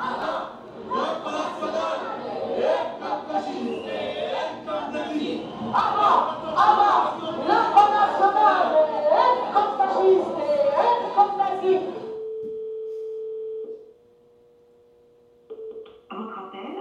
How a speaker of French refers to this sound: Tu vois, de la foule, tu sais.